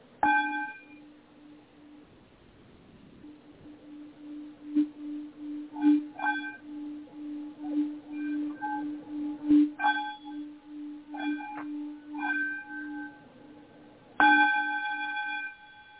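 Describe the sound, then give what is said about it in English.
A meditation bowl rings with a steady low hum and shimmering overtones, struck again every few seconds with soft bright accents, ending on a louder strike that blooms and sustains. No one speaks. “It's kind of what the bowl felt like it was doing, too.”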